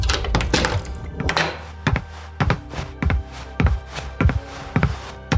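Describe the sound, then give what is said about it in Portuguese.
A man unlocks a door at night with a burst of sharp clicks and clunks, then heavy, evenly spaced thuds follow at a steady rhythm. No one speaks. “Destranca a porta.”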